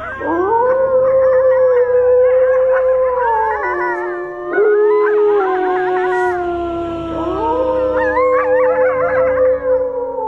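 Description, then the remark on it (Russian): Several dogs howl together in a cemetery in a loud, overlapping chorus, their long wavering notes sliding up and down in pitch and sustained throughout without pause. No one speaks. “И другие звери присоединялись к нему, пока все вокруг не наполнилось их нестройным завывающим хором.”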